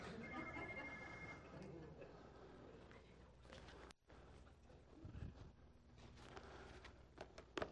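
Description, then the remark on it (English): A telephone dial tone sounds, its steady pitched ringing clearest in the opening moments, amid a busy, cluttered background with clattering knocks and muffled voices. “I didn't know you used that dial tone.”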